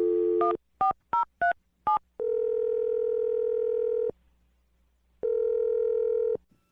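Five quick touch-tone beeps as a phone number is dialed to call a man, followed by two long, steady ringback tones separated by a pause. Loud, with no voices.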